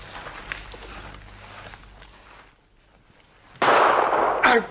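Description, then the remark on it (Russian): After a few quiet seconds of low room noise, a loud pistol shot bursts out in a duel with a harsh, lingering blast, followed moments later by a second sharp crack. “Кажется, первый выстрел ваш, граф. Прошу.”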